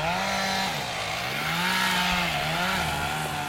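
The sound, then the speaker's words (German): A chainsaw engine runs steadily as a tree crew clears undergrowth and fells trees, its buzzing pitch dipping and rising as the blade bites into wood and eases off, loud and continuous with no voices. “lichtet mit einer Baumcrew das Unterholz. Fällt Bäume, schult Nachbarn in der Brandprävention.”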